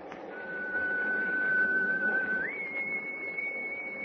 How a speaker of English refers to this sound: Gosh, that whistle is...